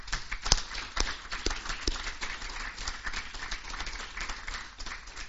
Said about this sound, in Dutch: Dit applaus is voor jou.